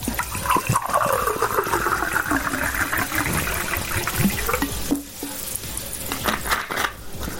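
Bottled water pours steadily into a glass in Zrenjanin, Serbia, for several seconds, a continuous gurgling splash whose hollow ringing tone shifts as the glass fills, with no voices.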